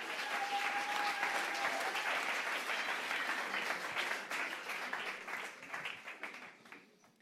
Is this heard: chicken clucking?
no